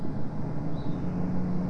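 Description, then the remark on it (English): A car passes outside, heard as a steady low rumble with a faint engine hum that holds evenly throughout the short stretch. No one speaks. “Yeah, I hear that car.”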